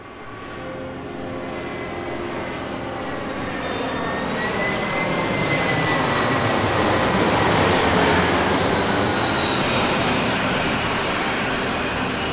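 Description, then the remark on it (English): The engine of the Blackbird, a massive jet, roars steadily and swells louder, with rising and falling whining tones as it swings around and fires its vertical thrusters, lowering onto a facility's landing pad. No voices are heard. “The Blackbird comes in for a landing, swinging around and firing its vertical thrusters, lowering onto the facility's landing pad.”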